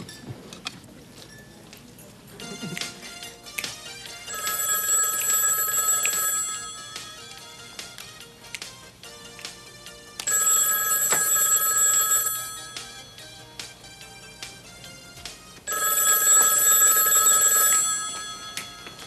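A home telephone bell rings three times, each long, bright, high-pitched trill lasting about two seconds, separated by quieter pauses with faint background clatter.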